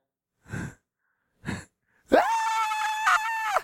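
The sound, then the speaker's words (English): A voice imitates a tantrum by a child kicking on the floor and screaming for candy after being told no: two short breathy gasps or sobs, then a loud, sustained high-pitched wail lasting over a second, cracking near the end, heard alone. “That's what the child thinks when he's kicking on the floor screaming and he wants the candy in the rack and mama already said no.”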